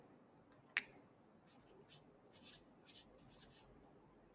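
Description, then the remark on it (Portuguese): Quiet scratching of a red pen writing on paper in short strokes, with a sharp click near the start and another at the very end; no one speaks. “Então, Igor, minha caneta vermelha.”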